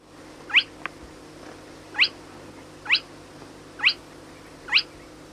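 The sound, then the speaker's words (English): A spotted crake, a small water bird about the size of a starling, calls five times, each a sharp, high, upward-whipping whistle repeated at a steady pace of roughly one per second over a faint low background hum. “The spotted crake is a small water bird, similar in size to a starling.”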